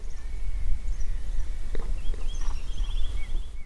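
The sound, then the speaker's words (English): A blue rock thrush sings at a hiking car park, a string of clear, whistled and warbling phrases, fairly soft, over a steady low rumble with a few scattered knocks or footsteps. “It's what we call the blue rock thrush.”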